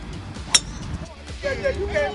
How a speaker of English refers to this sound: That was Hopkins' first golf swing. Not sure where the ball landed, but judging from all the cheers from his squad, I think he did pretty well.